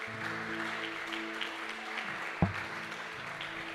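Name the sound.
audience applauding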